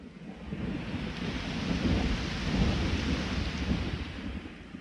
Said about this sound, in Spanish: Solo estaremos aquí mientras continúa la lluvia.